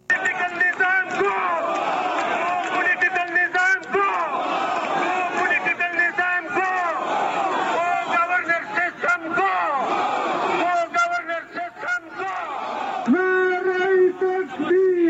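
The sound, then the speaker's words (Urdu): A large crowd of tribal street protesters from FATA, including political parties, tribal elders, civil society groups, lawyers and students, demanding change and their rights, chants and shouts loudly and continuously, many voices overlapping in rhythmic bursts, with a lead voice rising above the mass near the end. “شدت پسندی اور فوجی کاروائیوں کے ستائے ہوئے قبائلی عوام بالآخر تبدیلی کے لیے سڑکوں پر نکل آئے ہیں.”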